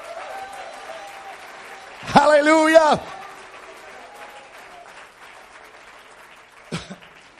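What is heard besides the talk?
audience clapping hands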